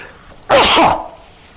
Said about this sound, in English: I thought, oh, here comes a sneeze.